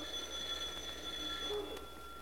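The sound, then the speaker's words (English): A bell rings steadily for about two seconds, a continuous high metallic ringing with a few sustained bright tones and a faint low hum beneath, with no one speaking. “The Bell Vance?”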